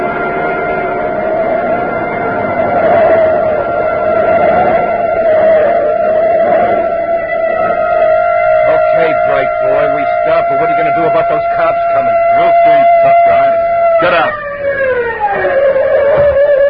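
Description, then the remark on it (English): A police siren, a block behind, holds a loud, steady wail for a long stretch, with some clattering noise underneath, then winds down in pitch near the end. “Hey, a police siren, a block behind.”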